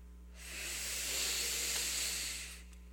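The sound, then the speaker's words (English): One long, deep breath of outside air drawn in, a steady airy hiss that swells and holds for about two seconds before cutting off, with a low electrical hum running underneath and no talking. “First deep breath of outside air.”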